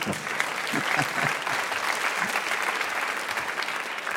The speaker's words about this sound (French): Oui, on peut l'applaudir, oui.